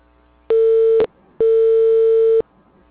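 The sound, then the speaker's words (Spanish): A telephone busy tone: two loud, steady single-pitch beeps, one short and one about a second long, separated by a brief gap of near silence, with no voices. “El teléfono que marcaste está ocupado por ahora. Por favor, intenta más tarde.”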